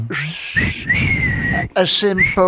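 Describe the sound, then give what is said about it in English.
A loud human whistle that swoops upward into a long sustained tone, followed by a brief second whistled phrase, like a wolf whistle, with some low background noise underneath. “A simple wolf whistle.”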